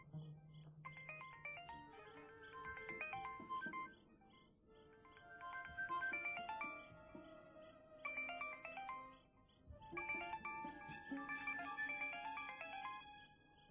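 A mobile phone ringtone plays a bright, melodic electronic tune in repeating bursts, fairly loud, with brief pauses between phrases and no one speaking.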